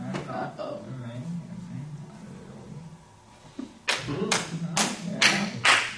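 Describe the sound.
A voice talks at first during a sermon, then about five loud, sharp hand claps from an audience member ring out at a steady, deliberate pace, each one a crisp slap.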